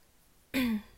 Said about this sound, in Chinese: 我想要，哎，不管了，咳嗽而已，又不是发烧。